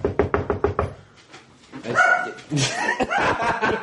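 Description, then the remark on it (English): A quick series of knocks at a door is followed by a dog, Luigi, barking loudly, several sharp barks running together for a couple of seconds. “Go bark again.”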